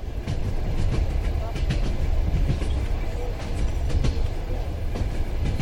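A moving train rattles steadily along, its wheels clacking in a loose repeating rhythm over a dense, rumbling low roar that holds constant throughout.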